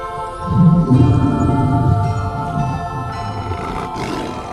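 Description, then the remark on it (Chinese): A deep, rumbling lion roar swells up loudly, rolling on for a few seconds with a throaty, growling texture before easing off, as the Lion King wakes in a small cave on a mountaintop. No one speaks. “狮子王，您终于醒了。”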